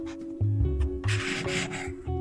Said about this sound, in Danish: kan du ikke lige prøve at tage den blyant, der ligger foran dig, og tegne en streg på det der stykke papir? Ja.